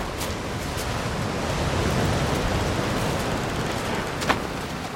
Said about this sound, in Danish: Nu kommer tidevandet og slår ind mod det nye pæle. Hårdt og ubarmhjertigt.